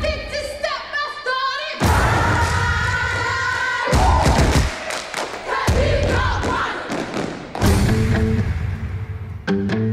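A Baltimore City step team stomps heavy, rhythmic thuds in quick bursts while a crowd yells and cheers loudly over the pounding feet, with shrill high-pitched shouts near the start.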